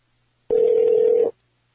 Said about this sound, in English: Oh, did I just miss a phone call?